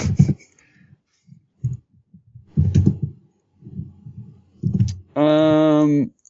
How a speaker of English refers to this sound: I've been clicking the whole time, so. Well, yep. I hope you can't hear me just, typing into Google right now.